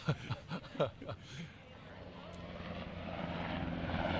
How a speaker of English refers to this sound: As you can hear, in Washington, even though we have a partial shutdown, there's a lot of air activity.